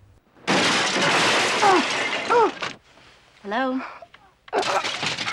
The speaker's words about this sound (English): Meanwhile, the assassin smashes his fist through the glass of the phone booth.